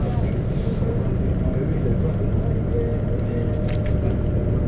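vehicle, bus engine rumble

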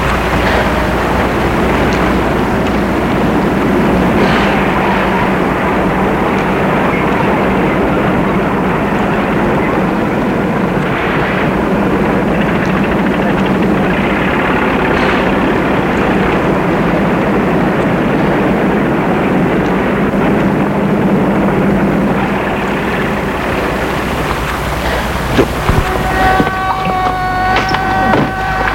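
vehicle, trucks driving past

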